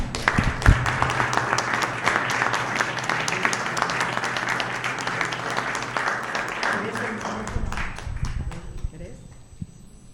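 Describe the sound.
An audience applauds with dense, steady clapping for several seconds, then it thins out and fades as a voice begins talking near the end.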